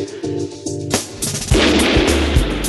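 A wild street shootout in which wanted man Holger Klaus Mainz does not surrender to police: sharp pistol shots crack out, a few isolated reports at first, then heavier, rapid bursts of submachine gun fire hammer away with loud, booming thuds over a dense, noisy background.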